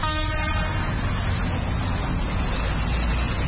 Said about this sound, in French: Là, qu'il y a les motos qui sont en train de venir et il y a aussi les activités qui ont repris par rapport à la journée d'hier.